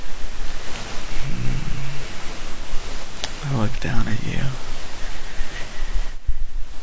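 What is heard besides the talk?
shower water running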